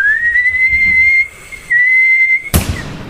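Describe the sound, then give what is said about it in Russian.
A kettle whistles with a steady, piercing high tone, breaking off briefly before sounding again, then ends with an abrupt sharp clatter. No one speaks. “Так вот он уже свистит.”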